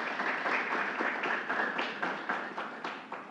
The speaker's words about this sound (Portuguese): Uma salva de palmas para o nosso amigo.